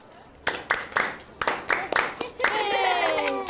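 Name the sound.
group clapping hands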